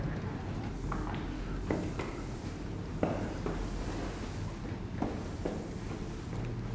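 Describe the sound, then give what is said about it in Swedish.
Footsteps walking in through the open front entrance of an apartment building: a handful of sharp, moderately loud steps at an uneven pace, set over a steady low rumble with no talking. “Vi går in i porten, för den är faktiskt öppen.”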